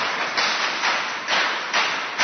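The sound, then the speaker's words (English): A group of people clap together in unison, five loud, sharp bursts in a steady, even rhythm about half a second apart, with no talking. “When we all clapped, our thoughts are united.”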